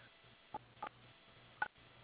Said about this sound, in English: Using the keys on your telephone, please spell the first name of the person, then press pound for the...